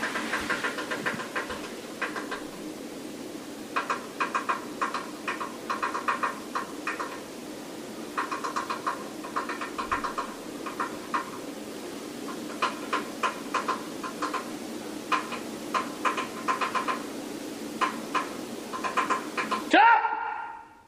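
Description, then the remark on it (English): Light, rapid tapping from under a kitchen sink in a house, recorded on a phone, comes in irregular clusters over a low steady hum for about twenty seconds, then a sudden louder shout cuts in at the very end and the tapping stops. “this thing stops tapping as soon as I shout at it.”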